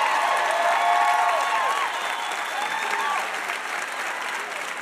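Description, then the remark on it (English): Sustained audience applause for VIP guest Barney Frank on the show Ask Me Another fills the whole stretch, a dense wash of clapping at steady loudness, with a few cheers and whoops rising above it before it eases slightly toward the end. “Another huge round of applause for our VIP, Barney Frank.”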